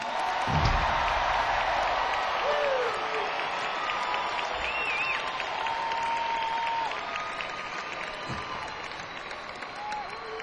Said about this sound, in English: Hey, how about a nice round of applause for Bernie Ledden?